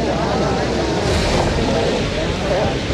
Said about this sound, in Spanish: Sí, efectivamente, ya ha bajado su despacho presidencial el presidente Gabriel Boric, quien entre aplausos, lo podemos escuchar ahí en el ambiente, escuchemos.